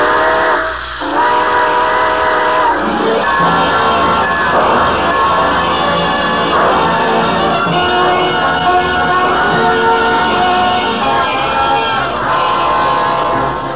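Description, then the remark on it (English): A steam train pulls out of the station at the close of The Railroad Hour radio broadcast, its whistle sounding over a steady chugging rumble and a busy crowd murmur, loud throughout. “All aboard. Well, dear friends, it looks as if we're ready to pull out”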